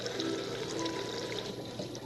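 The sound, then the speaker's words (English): Water is poured steadily into a funnel, a continuous gurgling, splashing flow, fairly loud for about two seconds with no voices. “I'll put some water in and show you.”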